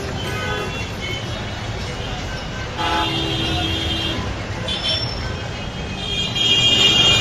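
Dense street traffic rumbles steadily in Dhaka, Bangladesh, while car horns toot again and again, some short and some sustained, layered over the constant engine noise of a crowded road.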